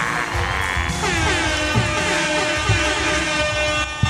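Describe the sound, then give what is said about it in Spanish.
A live comedy show audience in Río Piedrado breaks into loud, sustained applause and cheering as a comedian is introduced, with shrill whistle-like tones riding over the dense clapping. “¡Fuerte aplauso para el George!”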